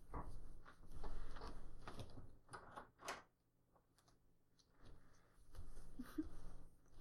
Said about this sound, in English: Just let me lock the door.